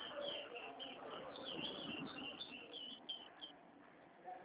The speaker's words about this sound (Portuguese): Eu tô ouvindo passarinho cantar. Você tem passarinho ou é o lugar aí que é aberto?